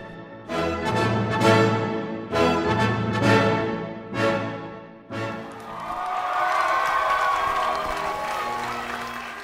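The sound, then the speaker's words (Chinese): Delegates at the Republican National Convention cheer loudly as they approve the party platform, in several surging bursts of voices, then settle into a steady wash of sustained applause and clapping that carries on to the end. “议会代表在欢呼声中批准了竞选纲领，准备第二日推举总统候选人。”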